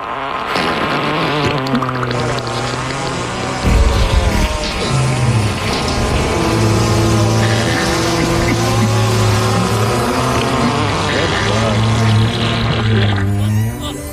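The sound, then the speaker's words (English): A fart montage for a 14th birthday: a rapid string of loud, buzzy fart sounds, one after another with wavering pitch, fills the whole stretch with barely a pause, prominent, with no talking. “I was hoping she could get a fart montage and Mickey and Goofy telling her the best way to enjoy her teenage years.”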